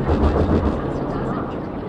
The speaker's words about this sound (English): It's a big plane leaving SFO. It's amazing when you're out here, you pretty much don't hear anything besides the planes and the faint hum of the cars.